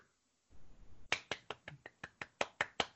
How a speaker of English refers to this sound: Dan, insert a round of applause here.